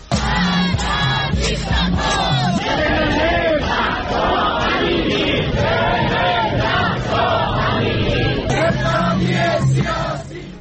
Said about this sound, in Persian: دیگه بعدش خانوما همه روسریشون رو در آوردن و چرخوندن و شعار دادن. و اعتراضات زن، زندگی، آزادی در این دومین سالگرد مرگ مهسا ژینا امینی در شهرهای مختلف جهان.